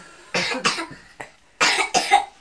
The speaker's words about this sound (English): Oh, what's a nasty cough?